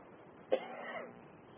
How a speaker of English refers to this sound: So anyway, maybe I should see that. Stop this cough of mine.